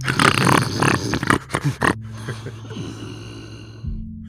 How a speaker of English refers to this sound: I haven't slept a wink. That guy snores.